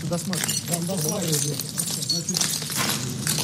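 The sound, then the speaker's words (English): Footsteps crunch over shattered glass with scattered sharp clinks and gritty scrapes as Crimea head Sergei Aksionov tours Kerch Polytechnic College after a mass shooting and explosion, while voices murmur steadily underneath the whole time. “Stepping in shattered glass, Crimea head Sergei Aksionov toured Kerch Polytechnic College where the mass shooting and explosion happened.”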